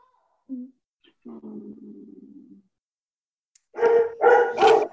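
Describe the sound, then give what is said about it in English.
A puppy lets out a drawn-out low whine, then after a pause fires off three quick, loud barks. “You're welcome, puppy.”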